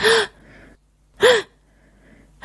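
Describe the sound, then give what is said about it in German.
Schniefi sneezes three short, sharp sneezes at roughly even intervals, spraying snow. Each is a loud hissy blast with a brief voiced rise and fall, separated by faint breathy noise. “Tschi, macht er.”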